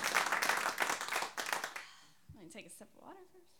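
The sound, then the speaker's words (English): A crowd applauds the performer's team and the sound crew in a dense burst of clapping for almost two seconds, then it quickly fades and a single voice starts up alone. “And can you guys give these guys a round of applause one more time?”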